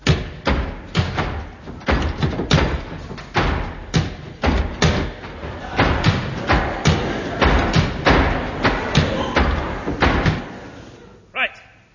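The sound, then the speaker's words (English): Doors slam shut one after another, a long run of heavy wooden thuds at an uneven, hurried pace, with faint voices underneath and a final softer knock. “Could we close the doors, please?”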